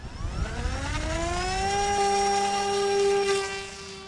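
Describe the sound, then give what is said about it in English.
On a windy day, a drone's propellers speed up to takeoff RPM, whirring up from a low hum into a rising, buzzy whine that climbs steadily in pitch for about two seconds, then holds a loud, steady tone before easing slightly at the end. “the propeller will then speed up and get to its appropriate RPMs for takeoff”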